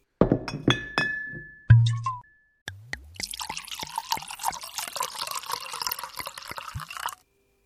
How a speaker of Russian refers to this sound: Тут же зазвенела бутылкой и граненным стаканом. Послышалось бульканье.